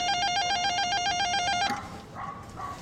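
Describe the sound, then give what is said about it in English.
An apartment intercom buzzer in New York City, buzzer number five, rings with a rapid, high electronic warble alternating between two tones, holding steady for under two seconds before cutting off into faint background noise. “She said buzzer five.”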